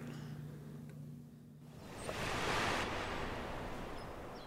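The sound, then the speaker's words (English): A small wave washes up on the shore beside a prison in a soft, hissing surge that swells midway and slowly recedes, with a faint low hum underneath at the start and no voices. “And I'm looking down at the water. A few seagulls in the water flying around. It's coming up. And it got like a little itty bitty wave that'll come up.”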